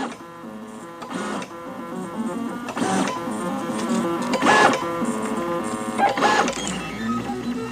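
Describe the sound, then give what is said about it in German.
A 3D printer printing circles: stepper motors whir in layered, pitched tones with rising and falling sweeps, bursts of brighter motor noise recurring roughly every one and a half seconds, steady and moderately loud. “Der druckt gerade Kreise.”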